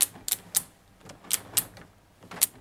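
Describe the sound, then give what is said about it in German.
A burglar-resistant RC2 (Resistance Class 2) security door latching and locking as its stainless steel locking bolts engage: a quick series of sharp, bright metallic clicks and clacks in uneven clusters over a couple of seconds, with no voices. “Und so klingt eine RC2-Tür.”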